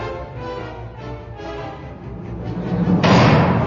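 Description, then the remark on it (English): A low rumbling drone runs throughout, then a door into an atrium slams open with a sudden loud crash near the end as a crowd of beings pours in, its noisy roar carrying on to the finish. “In front of Leia, the door slammed open and a solid wall of beings poured into the atrium.”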